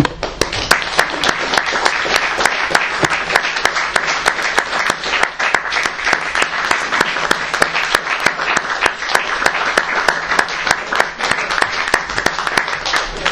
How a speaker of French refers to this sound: Poète qu'il faut applaudir, évidemment.